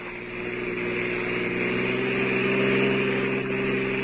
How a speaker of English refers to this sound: It's about an hour later now, and a car with three very silent people in it has just reached the outskirts of the town.